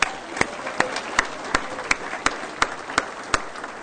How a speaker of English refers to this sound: Let's give a round of applause to Aaron.